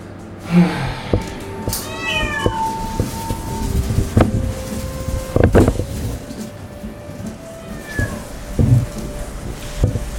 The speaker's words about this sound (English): By the time I got there, he was not happy, and he was meowing up a storm in the elevator.